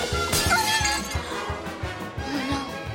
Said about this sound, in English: As he gets to the bottom of the stairs, Churchill knocks a vase off a stand. In the kitchen, Angus and Kirsty hear the noise.